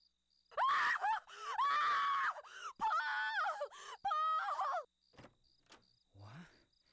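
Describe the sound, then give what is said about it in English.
Several long, high-pitched screams of horror ring out in quick succession from a hallway at around 5:30 in the morning, loud and strained, breaking into wavering cries before trailing off into quieter gasps and faint noises. “At around 5:30 in the morning, I was awakened by screams of horror coming from the hallway.”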